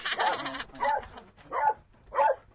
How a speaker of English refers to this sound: Sorry, the dog's barking.